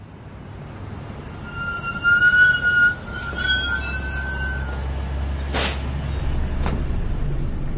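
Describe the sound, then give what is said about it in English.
A bus rumbles as high, thin brake squeals ring out over the engine noise, followed by a short hiss of air as it pulls to a stop. “Does this bus go to the town centre?”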